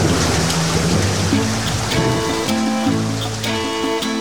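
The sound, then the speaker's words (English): Heavy rain pours down in a steady, loud, unbroken hiss, with low rumbling thunder and some sustained tonal sounds running beneath the downpour. “I'm not standing here all night getting drenched.”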